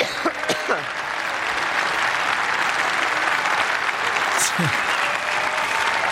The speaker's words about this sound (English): But what I do know is that it gets to the point where Theresa May gets applause every time she coughs.